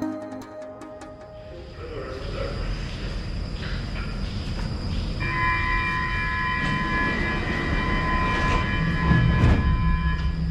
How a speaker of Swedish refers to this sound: Ljuden i tunnelbanan har alltid varit kusliga för mig. Det ensliga gnisslandet. Tågens pumpande kompressorer. Ett band av frustande metallhästar ekande genom underjorden.